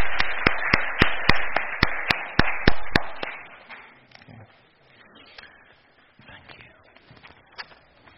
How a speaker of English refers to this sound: So I think another round of applause is probably appropriate. So thank you. Thank you.